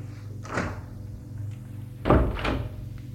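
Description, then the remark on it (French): Two heavy doors of a hydraulic elevator thud and rumble as they slide shut, one after another, over a steady low mechanical hum of the elevator running up to the second floor. No voices. “Il y a même l'ascenseur hydraulique. Il la suit. Elle va vers l'ascenseur.”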